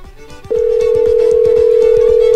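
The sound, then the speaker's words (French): After a brief moment, a steady, loud telephone ring tone of an outgoing call to Saint-Jean-de-Mata starts and holds unbroken at a single mid pitch, over a soft rhythmic beat in the background. “Je tente d'appeler à Saint-Jean de Mata.”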